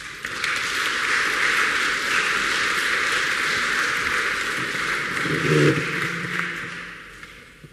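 A crowd applauds, dense steady clapping holding at an even loudness for about seven seconds, with a faint murmur of voices toward the end as it starts to taper off.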